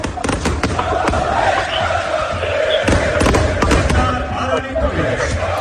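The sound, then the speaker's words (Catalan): A loud arena crowd sings and chants together at the end of a match while sharp fireworks bangs, set off from the top of the pavilion, burst repeatedly through the din, some in quick clusters, filling the space with a dense, echoing roar. “Vull dir, focs artificials, no, el públic cantant, vull dir, va ser una traca espectacular al final.”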